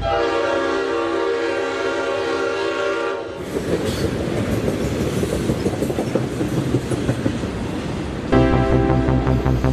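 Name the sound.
train passing with horn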